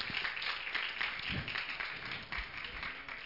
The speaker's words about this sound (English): One more hand clap for Jesus.